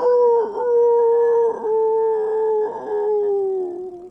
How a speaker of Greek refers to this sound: Τις νύχτες άκουγε τους πεινασμένους λύκους.